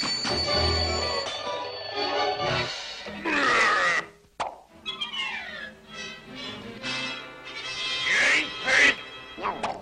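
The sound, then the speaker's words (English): A raspy, duck-like quacking voice squawks in agitated bursts, fairly loud, with short gaps between outbursts and a few sharp plopping knocks; it sounds like a voice imitating a duck. “Well, Mr. Duck, that's it. We've just plain run out of jobs.”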